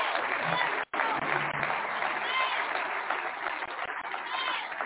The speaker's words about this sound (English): Clap for the Lord before we go.